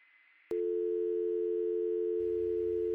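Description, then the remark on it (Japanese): A steady, loud telephone tone starts abruptly after a brief low hiss and holds continuously, a flat electronic drone heard right after the caller, a mother, hangs up the call, with no speech. “お母さんはそれだけ言って電話を切ってしまった。”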